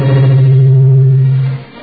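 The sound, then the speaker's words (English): A steady, droning voice-like tone soaked in heavy reverb and effects processing holds one pitch for over a second, then fades away in a short washy tail. “You're going to quash my sentences by turning up the reverb.”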